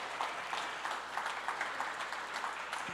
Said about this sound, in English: And I want to say just a shout out to the youth who are here tonight. Would you just give them applause again?